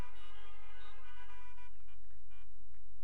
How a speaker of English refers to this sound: And if you're saved, you need to agree. Honk your horn or something. Amen.